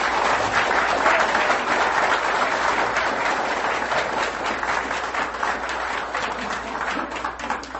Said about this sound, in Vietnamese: I thank you for being here and sing the song and provide it to all of us. Xin quý vị một lần nữa một tràng pháo tay.